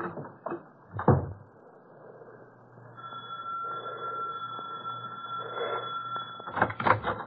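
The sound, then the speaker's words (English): A door opens with a couple of sharp knocks and rattles, then a steady high tone hums in the background before the door shuts with a cluster of thuds. “Go out the back way and run for it.”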